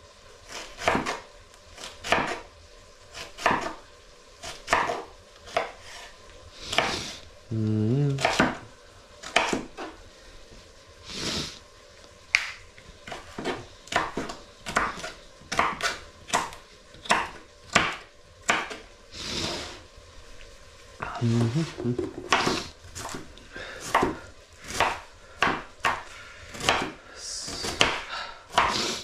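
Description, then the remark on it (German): A knife chops the second half of a white cabbage on a board into thin slices and then small cubes, in quick, sharp strokes, a steady run of crisp thuds broken by short pauses and a couple of softer scraping sweeps; no one speaks. “Dann die zweite Hälfte des Weißkohls klein schneiden. Dünne Scheiben. Und danach wieder klein würfeln.”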